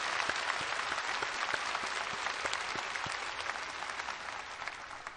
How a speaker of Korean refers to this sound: 또 오늘 이 예배와 행사를 드릴 수 있게끔 수없이 많은 분들이 오랫동안 큰 수고와 애를 써 오셨습니다. 그분 모든 분들에게 우리 감사의 박수를 한번 쳐드리십시오.